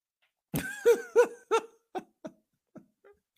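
man coughing

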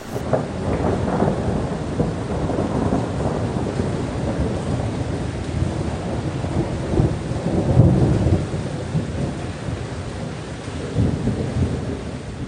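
sudden rain shower

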